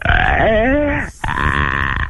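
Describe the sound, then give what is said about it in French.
A person imitates a reindeer crying in pain from rubbing its tongue against the carpet: two loud, strained, guttural groans with a brief break between them, the first wobbling and bending in pitch, the second rougher and steadier. “Et crie, je veux entendre le renne qui crie et qui a mal avec la moquette.”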